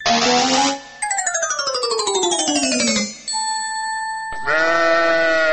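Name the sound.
sheep bleating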